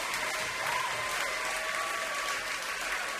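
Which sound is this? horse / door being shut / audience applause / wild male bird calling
audience applause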